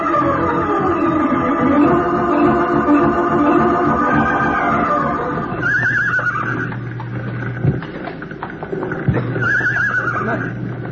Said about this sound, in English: Horse is over here. You can hear it. They're really scared. Watch it. Don't get near their hooves. No. They'll kick at anything they hear now.